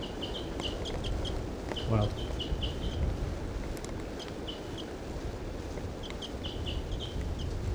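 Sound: wild female bird calling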